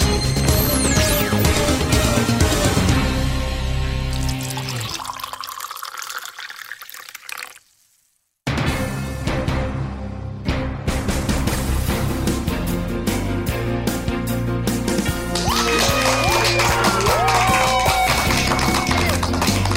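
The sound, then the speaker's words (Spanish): Steady, dense clapping from a crowd mixed with upbeat music, cutting out abruptly for about a second before the applause and music surge back at full loudness. “Y con esa energía positiva y esos aplausos damos inicio este jueves a este episodio número 82 del programa Te Invito a un Café.”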